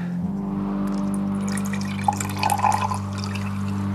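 Water trickles and splashes as it is poured, a soft liquid gurgle over a steady low hum, with a few brighter splashes in the middle before it settles.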